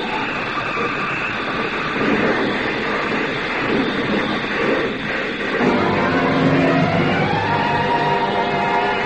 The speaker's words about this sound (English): The car skidded on gravel and slid sideways toward the cliff.